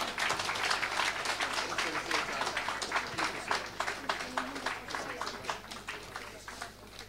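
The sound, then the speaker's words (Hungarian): Steady applause from a crowd, dense overlapping claps sustained for several seconds, thinning slightly toward the end. “Egy jó nagy tapsot kérünk.”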